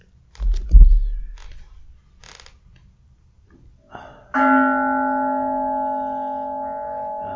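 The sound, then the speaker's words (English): A few soft clicks and a dull thump of handling, then a single meditation bell is struck and rings out with a rich, steady, sustaining tone that hums on for several seconds. “would you like to ring the bell for me?”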